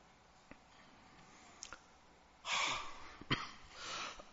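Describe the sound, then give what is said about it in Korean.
A few muffled coughs: a rough, breathy burst, a short sharp catch, then another softer hack, with no one talking, over quiet background tone. “죄송합니다. 제가 기침을 좀 합니다.”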